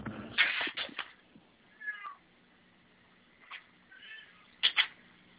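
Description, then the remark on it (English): A cat meows several times, fairly loud, with short gaps between the cries and a few rustling thumps mixed in, as it is being let outside. No one speaks. “Sorry, I had to let the cat out.”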